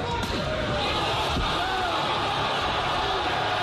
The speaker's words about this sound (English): Sounds like somebody else getting knocked out. That's a 220-pound man slapping a 260-pound man. Yeah, the 260-pound man goes to the ground.